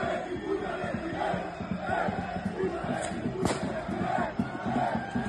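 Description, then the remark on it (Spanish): A loud, chanting crowd roars throughout as the Atlético de Madrid team bus arrives at Montjuïc before a Copa del Rey semifinal against Barcelona; one or two sharp bangs of objects striking the bus cut through the din around the middle. “Eso que oyen son impactos que ha sufrido el autobús del equipo rojiblanco.”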